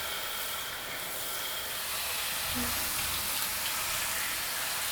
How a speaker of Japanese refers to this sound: シャワー温度で代謝も高めたいから、ゆっくりたっぷり、